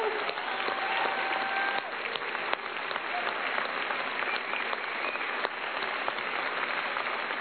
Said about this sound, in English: So let's take 30 seconds and just by your applause and praising God and thank you, tell God how good it is to be alive one more day.